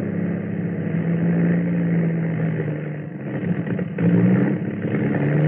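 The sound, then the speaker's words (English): The 50-horsepower engine of Harriet Quimby's small monoplane putters over the English Channel in morning mist with a steady, low, throbbing drone, dipping briefly and then surging back to full strength. It sounds continuous, with no voices. “Fear rode beside her as the 50-horsepower engine puttered through the enveloping mist.”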